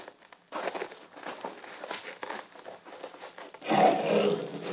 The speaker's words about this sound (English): He is a Nubian lion.